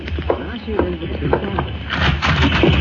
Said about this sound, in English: Oh, not much longer, Major Hall. Listen, huh? Yes, I hear them. Horses galloping.